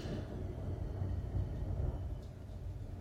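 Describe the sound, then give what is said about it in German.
A thunderstorm with lightning: steady rain hisses throughout while a deep, continuous rumble of thunder rolls underneath, fairly quiet overall and with no voices. “und heute, so faszinierend, ist der erste Tag, wo es hier wirklich richtig regnet, gewittert, blitzt und donnert. Vielleicht könnt ihr es sogar hören.”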